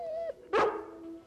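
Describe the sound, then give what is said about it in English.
The dog Lassie gives a high, drawn-out whimper, then one sharp, loud bark, followed by a thin lingering whine, with no one talking. “Well, you're a very, very good dog.”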